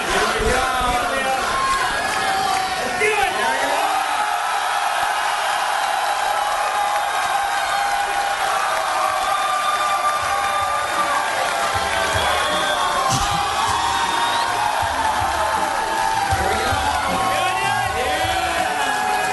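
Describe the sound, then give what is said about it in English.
A large crowd cheers and whoops, saying hi to a live stream on TWiT, a dense roar of many voices with scattered high-pitched shouts rising above it, loud and sustained throughout. “Say hi, everybody. Come on.”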